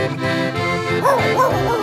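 A dog lets out a few short barks and whining yelps over steady background music, the calls rising and falling in quick succession near the end.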